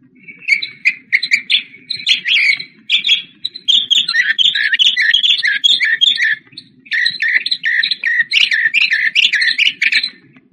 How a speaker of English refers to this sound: Mockingbird.